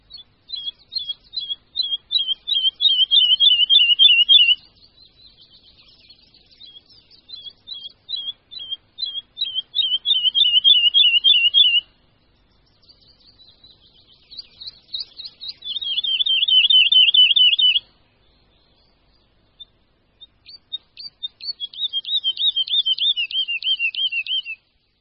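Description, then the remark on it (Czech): A woodlark (skřivan lesní) sings in repeated bursts of rapid, high trilling notes, each phrase speeding into a dense rattle before pausing, clear with no other sounds. “Pokud by se někdo domníval, že tento nádherný zpěv nemůže vyluzovat nikdo jiný než Slavík, zmýlil by se.”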